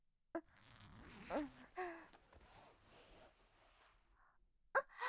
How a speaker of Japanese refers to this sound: じゃあ、チャック下ろすね。